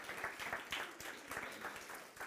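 An audience applauds steadily, a dense patter of many hands clapping at an even, fairly loud level for a couple of seconds, with no voices standing out.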